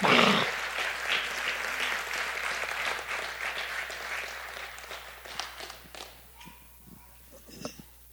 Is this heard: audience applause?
yes